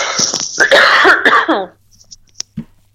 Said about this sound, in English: I'm going to cough again, sorry.